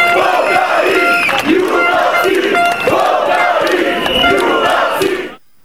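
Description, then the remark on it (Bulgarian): A crowd of about 300 people at a national protest against the new government in Plovdiv, Bulgaria, chants in unison, with loud rhythmic shouted phrases repeating about every second and a half over a dense wash of voices, until the sound cuts off abruptly. “Около 300 души в Пловдив се отзоваха на призива за национален протест срещу новото правителство.”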